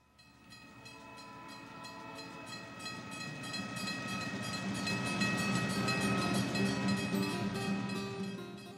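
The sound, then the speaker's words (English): A train rolls along the rails, its heavy rumble building louder over several seconds, with a sustained metallic whine and a steady rhythmic clatter underneath. No one speaks. “But you won't be the first to meet their maker beneath the wheels of my train.”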